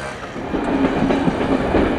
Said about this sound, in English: The Friday train from Zagreb to Vukovar is packed. It's hard to find even a standing spot in the hallway between the compartments.